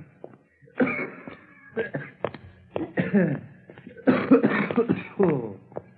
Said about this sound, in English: Phew. That coughing spell of yours sure got us out of a tight pinch,